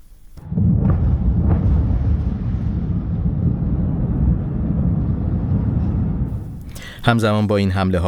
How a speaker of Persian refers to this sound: انفجار وحشتناکی بود. در رشت هم چندین انفجار در سطح شهر شنیده شد و ساعتی بعد معاون سیاسی استاندار گیلان اعلام کرد که شهرک صنعتی سفیدرود هدف این حمله قرار گرفته است.